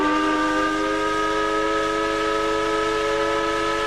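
The whistle of the Hamburg steam tugboat Woltmann blows in one long, loud, sustained blast with a rich, layered tone, held steady for several seconds with no voices present, at Kiel Week on the Kiel Fjord.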